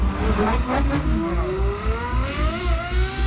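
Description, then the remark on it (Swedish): A powerful Ferrari sports car engine, V8 or V12 style, revs loudly, its pitch climbing in repeated rising sweeps over a throbbing low rumble, with no voices. “Ja, men dels är det de kraftfulla motorerna såsom V8, V12-motorer, ljudet ifrån dem.”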